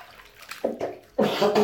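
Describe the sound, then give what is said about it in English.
Sloshing water splashes in a few short bursts, building to a louder, sustained splash near the end, as water is poured over a man's face while he is being washed with shower gel. “The water burning me. I'm washing you”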